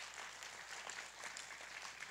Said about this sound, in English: Come on, let's give God a big hand clap for that.